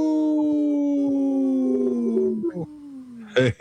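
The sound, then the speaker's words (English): A person imitates a wolf with one long, sustained howl that drifts slowly downward in pitch for about three seconds, fairly loud, followed by a brief louder vocal burst. “Hey, …, I heard you. That's awesome. Hey, we love Howling for Wolves, and we love our relatives' wolves.”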